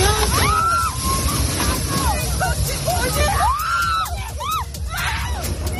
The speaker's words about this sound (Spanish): Escuchas las fuertes rachas de viento que se han registrado este sábado en la provincia de Córdoba.